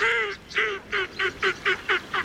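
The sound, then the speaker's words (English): Northern shoveler ducks call in a run of eight nasal, honking notes, the first two longer and the rest shorter and evenly spaced, moderately loud with no talking over them. “Northern shovelers are social birds that often forage together in large flocks.”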